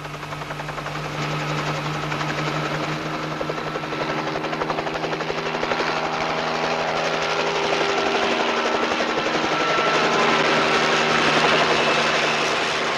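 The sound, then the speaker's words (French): A helicopter drones steadily overhead while carrying a statue of Jesus through the air, its rapid rotor chop forming a dense, fluttering clatter that holds loud and constant for the whole stretch, with no voices. “Suivons ce bruit qui rappelle celui d'une bobine de film qui défile et qui est en réalité celui d'un hélicoptère qui trimballe une statue de Jésus dans les airs, le plus naturellement du monde”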